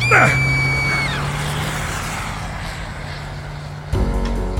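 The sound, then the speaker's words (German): A car drives around a corner on a street, its engine droning steadily while a sharp, high squeal rings out at the start and fades, before the engine note abruptly shifts near the end. “Ein Wagen fuhr um die Ecke, als der Kerl mich schubste.”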